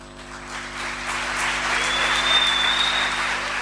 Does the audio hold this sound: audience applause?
yes